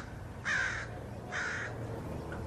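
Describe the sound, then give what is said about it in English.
Two harsh crow caws, evenly spaced about a second apart, ring out over a steady low outdoor rumble, fairly loud; crows recorded by an 11-year-old boy around his neighborhood. “When he was out here, he was out recording some sounds of crows.”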